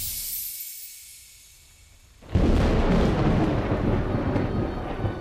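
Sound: thunderstorm rumbling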